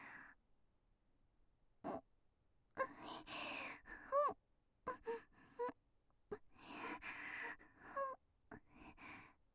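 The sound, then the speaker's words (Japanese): Close, airy breaths blown toward the listener's ear puff right up against the microphone in a string of uneven exhales and soft gasps, a few tinged with a faint voiced sigh, with short silent gaps and no talking. “耳元に吐息がかかるように。”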